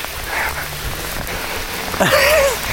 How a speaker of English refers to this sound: And bloody hell, it's really pelting it down with rain.